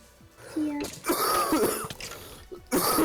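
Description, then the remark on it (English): A harsh, raspy smoker's cough erupts in several loud, rough bursts, with a throaty hack in the middle and a final sharp cough after a brief pause. “Has to leave us with the smoker's cough.”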